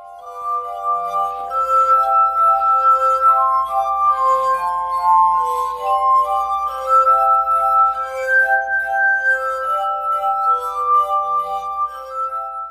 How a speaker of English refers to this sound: It's a variation that evokes the kind of lo-fi sideshow spectacle of someone playing notes by rubbing the rims of crystal glasses.